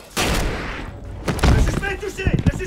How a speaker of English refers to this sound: The cop he pushed over fires a pistol, and Derek goes down.